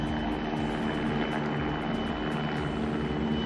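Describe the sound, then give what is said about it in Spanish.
Firefighting helicopters drone steadily overhead at the San Juan reservoir, repeatedly taking up water and dropping it on a forest fire: a loud, continuous engine roar with a dense low hum that holds without break for the whole stretch; no voices are heard. “Son los helicópteros que no han dejado de coger agua y echarla en el fuego que ha arrasado 50 hectáreas de bosque del pantano.”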